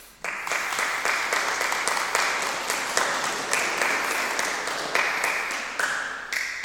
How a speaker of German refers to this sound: Dieses Jahr sind wir 3. geworden und Achbarer 5. Das ist doch in Ordnung und bestimmt einen Applaus wert.